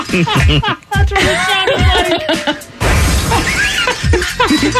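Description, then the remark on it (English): A harsh, noisy crunch like metal crumpling as a car crashed while pulling into a parking spot, loud and lasting a few seconds, with voices laughing and exclaiming over it throughout. “I heard the sound of metal crumpling is what I heard.”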